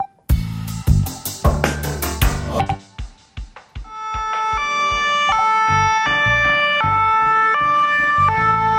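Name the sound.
ambulance siren passing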